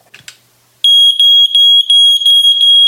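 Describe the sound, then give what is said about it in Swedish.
A brief click and rustle, then a loud, piercing smoke alarm sounds as its test button is held pressed, its shrill high-pitched tone pulsing in rapid beeps for about two seconds with no one speaking. “För att kontrollera att brandvarnaren fungerar så behöver man hålla knappen intryckt i ett par sekunder.”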